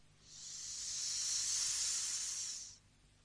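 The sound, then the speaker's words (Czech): A thin wisp of steam hisses out of a crack in a small chest, rising gradually, holding for about two seconds, then cutting off abruptly, with nobody speaking. “Teďka ještě nic, jenom tenkej pramínek páry, co se prodírá ze škvíry.”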